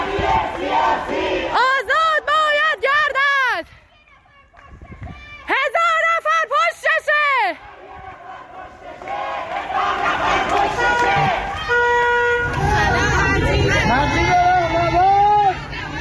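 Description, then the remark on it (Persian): A protest crowd in Golshahr, Karaj, Iran, chants loudly in rhythmic bursts the name of a young protester executed in Mashhad, two short repeated shouts separated by pauses, followed by a swelling mass of overlapping voices and yelling. “گلشهر کرج، مردم نام معترض جوان اعدام شده در مشهد را فریاد می‌زنند.”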